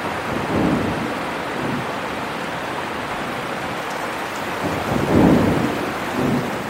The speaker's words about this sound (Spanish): ¿Parará finalmente esta lluvia? Puede ser que Noé haya tenido razón.